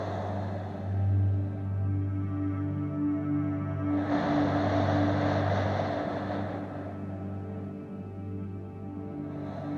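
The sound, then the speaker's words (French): One slow, deep breath, inhaled and exhaled during a relaxation breathing exercise, swells in and fades out over a steady low droning hum, with no talking, the airy rush lasting a few seconds before quiet returns. “Tu ralentis doucement ta respiration en suivant le souffle que tu entends.”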